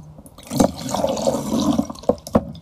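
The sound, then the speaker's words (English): Water squeezed out and pouring into a glass, a steady splashing trickle for a couple of seconds with a few sharper drips and spurts near the end, no voices. “Let's squeeze some of that out. Is that enough for you?”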